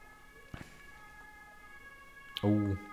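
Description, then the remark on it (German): A faint emergency vehicle siren passing outside holds steady tones throughout, with a couple of soft clicks and a short burst of a voice near the end. “Oha. Martinshorn.”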